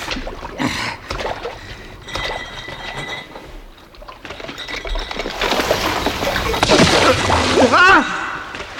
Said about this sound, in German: Ich stehe bis zu den Knien im Wasser und der Pegel steigt immer höher.